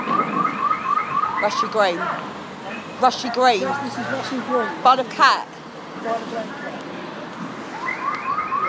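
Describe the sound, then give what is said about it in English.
A car alarm blares in Rushy Green in a fast, repeating electronic warble of high tones, heard clearly at the start and again at the end, while a person talks in between. “I mean, it might not be, it might just be going off, but...”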